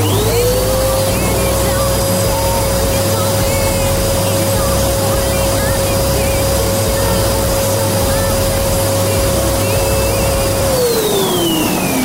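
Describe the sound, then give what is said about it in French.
A Dyson vacuum cleaner spins up to a loud, steady high-pitched whine with a rushing roar, runs for about ten seconds, then winds down at the end. “C'est fort, l'aspirateur, ça y va par là, la Dyson.”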